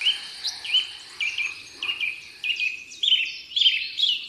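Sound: birdsong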